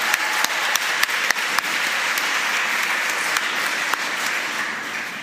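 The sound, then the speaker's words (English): An audience claps steadily and loudly for food writer Mimi, who recently celebrated her 90th birthday, a dense wash of overlapping hand claps with occasional sharper individual claps standing out, fading slightly toward the end. “Round of applause.”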